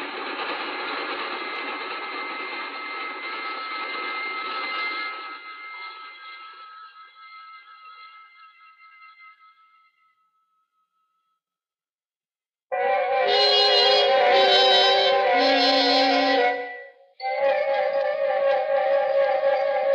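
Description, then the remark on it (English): A train roars past on rails at night with a droning, humming rumble that fades away into silence, then loud blaring horn chords sound in a few sustained blasts. “We sat there for a long, breathless moment as the train roared off into the night, leaving only their singing rails to mark its passing.”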